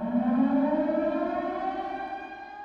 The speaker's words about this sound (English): Some feel like the beginning sounds like a plane in a nosedive. Or a siren alerting people of danger.